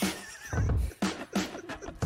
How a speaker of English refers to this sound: That did not sound like a chair. It was a freaking chair. It does sound like a chair.